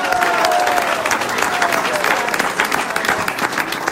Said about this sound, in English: One more round of applause for his orders.